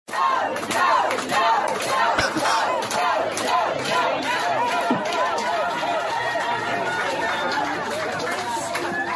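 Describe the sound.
A large crowd of parents outside a packed school board meeting screams "no, no, no" continuously, many high wavering voices overlapping. Sharp thumps and bangs from them beating on the windows break through the din at irregular intervals.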